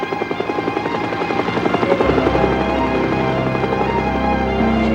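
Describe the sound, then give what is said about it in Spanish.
A helicopter flies by, its rotor chopping in a fast steady rhythm over a loud engine drone that deepens and grows heavier partway through. No voices. “¡Un helicóptero! ¡Nos están persiguiendo!”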